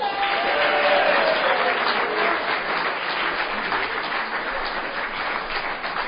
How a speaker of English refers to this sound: suggest that we start with applause for all the folks who have worked so hard to make this happen.